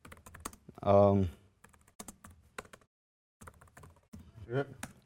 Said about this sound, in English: And then now I can start typing away, right?